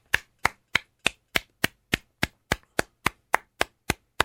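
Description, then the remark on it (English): A single person claps steadily for a few seconds, about fifteen crisp, evenly spaced claps at a brisk, regular pace, fairly loud with silence between them and no talking. “That's a round of applause for all the truck drivers.”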